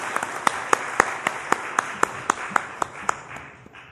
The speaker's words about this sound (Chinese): 以你的掌声我们欢迎他。 我们以热烈掌声欢迎他。